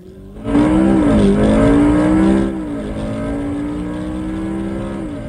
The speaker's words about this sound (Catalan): En el camí, es va creuar amb un cotxe.